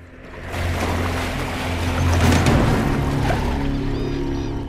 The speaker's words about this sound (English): Krishna reaches the shore, and a crocodile suddenly dashes into the water. As Krishna steps up onto dry land with her cub, the crocodile accelerates across the lake.